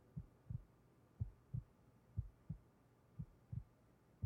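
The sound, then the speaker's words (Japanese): A young woman's muffled heartbeat, racing with excitement, thumps steadily in intimate quiet, each beat a soft low lub-dub pair repeating about once a second, with no voices over it. “私のドキドキ聞こえてる？”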